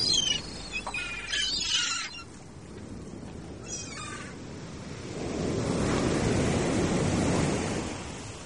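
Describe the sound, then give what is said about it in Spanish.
Giant waves crash onto the north beach on the Atlantic Ocean in a steady roar of surf that swells louder about halfway through. A few high, wailing bird-like cries ring out early on. No one speaks. “El sonido de las olas gigantes rompiendo en la playa del norte.”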